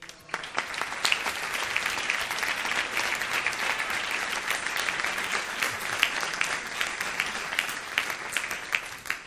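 A crowd applauds steadily for several seconds for a person called up to come forward, many hands clapping in a dense, continuous wash of sound that stays fairly even in loudness from start to finish.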